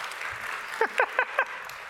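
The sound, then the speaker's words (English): Steady audience applause at the end of a talk on move semantics in generic code fills the background, a dense hiss of clapping, while four quick, bright, rising electronic chirps of a phone ringing cut through in an even rhythm near the middle. “Let's see whether the applause goes raises more.”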